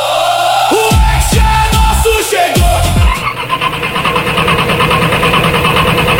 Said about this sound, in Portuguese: Dificuldades para ligar o carro. E demora para ligar o motor?